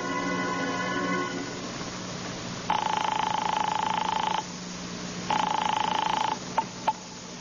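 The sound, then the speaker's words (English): A telephone rings twice over the line in long, buzzy bursts, after a steady tone, then a couple of sharp clicks as the receiver is picked up. No one speaks. The call is placed from a phone booth to Howard Wilcox's home. “I gave Vincent the address, feeling like a murderer, and then I beat it to the nearest phone booth and called Howard Wilcox's home. His wife, Elaine, answered.”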